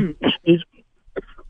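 A rough throat clearing in three quick raspy bursts, followed by a short pause and then a faint murmur of voice.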